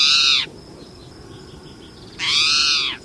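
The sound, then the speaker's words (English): A spotted towhee, an 8-inch common resident bird, gives two loud, cat-like mewing calls outside the breeding season, each slightly slurred and drawn out, separated by a short pause filled only with faint, high background chirps. “This feline-sounding call comes from a common resident bird, the spotted towhee.”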